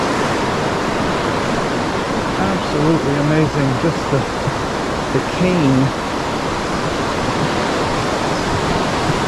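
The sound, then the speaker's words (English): Rough river water rushes loudly and steadily from start to finish, a dense roar, while a man briefly speaks over it partway through; the water flows at Tel Dan Nature Preserve at the very northern tip of Israel and feeds the Jordan River. “Look at that rough water. That is amazing. Going to fill the Jordan River here at the very northern tip of Israel.”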